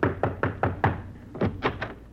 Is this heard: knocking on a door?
yes